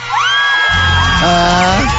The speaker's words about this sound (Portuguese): Deixa eu ver os efeitos aqui. Não, eu não quero esse. Cadê aquele do auditório que a manhãzada grita igual doido aqui? Ah, essa aqui, ó.